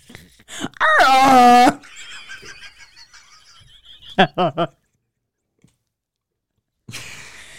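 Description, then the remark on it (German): A person imitates a rutting red deer stag: a loud, wavering, tonal bellow lasting under a second, then a quieter stretch and a few short, throaty grunts before falling silent. “Imitiere einen brunftigen Hirsch.”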